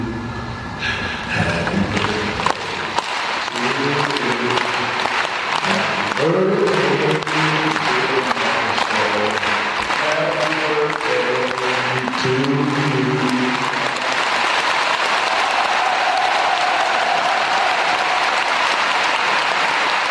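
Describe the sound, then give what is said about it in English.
A large crowd in an arena applauds steadily for about twenty seconds as Dennis Rodman walks to the microphone, a dense, even roar of clapping, with pitched voices or cheering rising over it through the middle stretch before fading back to plain applause. “and then this arena where they use cattle prods to force people into it was filled, and Dennis Rodman walked to the microphone, and everybody applauded.”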